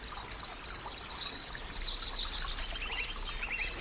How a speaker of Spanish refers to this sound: cada vez escuchas más el sonido del viento, el canto de las aves y el susurro de las ramas de todos los árboles a tu alrededor.